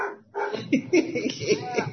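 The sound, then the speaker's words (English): A dog named Rosie barks in the next room, a run of four or five sharp, high yipping barks over about two seconds, mixed with a person talking at the same time. “Can y'all hear Rosie in the next room?”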